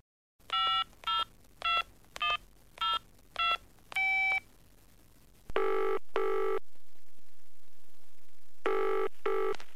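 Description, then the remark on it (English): A quick series of seven electronic dialing tones in a steady rhythm as someone calls the police, followed by a phone ringing in two bursts, a pause, then another ring, clear with no voices. “I think we should call the police.”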